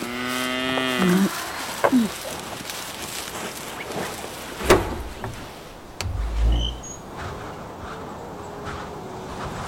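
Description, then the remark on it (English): A cow gives one drawn-out, clear moo right at the start, then the scene settles into quiet outdoor rustling in the wind, with a few soft thumps and gusts of low rumble. “Oh, I shall stay, and I shall help. At least till the cow is dry again.”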